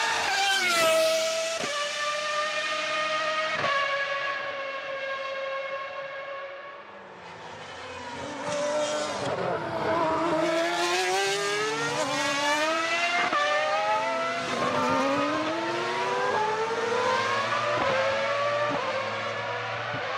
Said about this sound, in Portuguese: Eu tô bem seguro que esse é o ronco de motor aspirado mais bonito da história. Certamente, com toda a certeza, dos Fórmula 1 é o ronco mais bonito. Tô falando da Ferrari 412 T2 de 95, que é o último Fórmula 1 V12 da história.